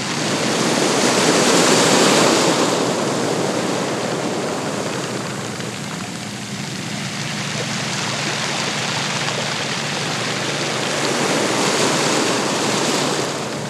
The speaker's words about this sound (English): You are listening to the sound of ocean waves on the cobble shore at Jasper Beach in Machiasport, Maine.